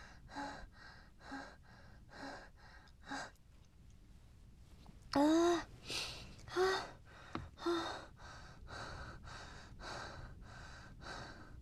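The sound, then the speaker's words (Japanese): Heavy, rhythmic panting from one person, with quick repeated breaths and a few louder, voiced gasps midway before the steady out-of-breath huffing resumes; the person is still out of breath after sex. “まだ息切れてる。”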